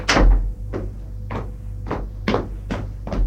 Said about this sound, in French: Dans le couloir, il ouvre la porte et entre dans la chambre.